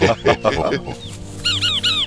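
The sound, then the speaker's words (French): A frog croaks in a dark forest in a few loud, rasping, clucking pulses, almost hen-like, then fades as brief high bird chirps repeat in the background. “C'est quoi ce bruit? Une grenouille. Ah oui. Ou alors, c'est une poule, mais qui est bien malade quand même.”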